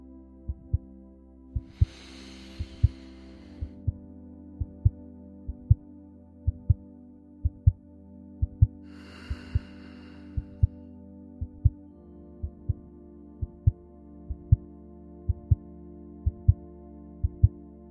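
sound effect, heartbeat sound effect

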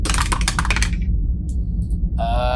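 household object, dice rolling

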